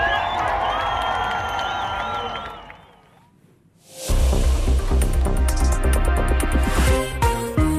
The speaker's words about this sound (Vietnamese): Trước buổi trưa không lâu, ông Edmundo González Urrutia và Tổng thống Argentina Javier Milei đã xuất hiện trên ban công phủ Tổng thống. Các cha mẹ cõng con trên vai, đám đông hân hoan và hát vang quốc ca Venezuela.